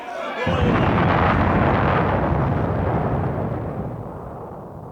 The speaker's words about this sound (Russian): Там взрыв! Они взорвали вход в пещеру, полковник!